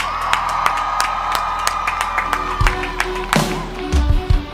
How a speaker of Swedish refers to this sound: Karlstad, en varm applåd